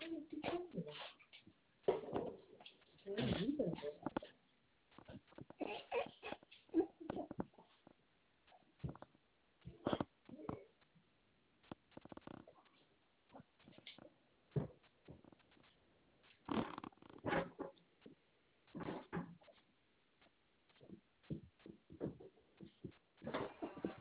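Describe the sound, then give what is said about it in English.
A dog makes repeated grunting, snorting and whiny noises in short, irregular bursts with brief pauses between them, moderately loud throughout. “What's wrong with this dog?”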